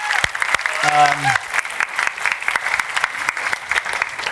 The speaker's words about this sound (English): We love our dads. Could you just give a warm, happy Father's Day clap for everyone here?